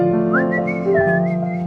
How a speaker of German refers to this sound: Der war falsch gepfiffen, aber.